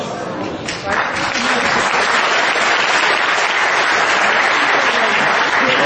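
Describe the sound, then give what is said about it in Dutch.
An audience breaks into applause, the clapping swelling within the first second into a dense, loud, steady wash of hand claps that carries on unbroken to the end. “Applaus is voor haar, want ze heeft een lastige wens getrouwd.”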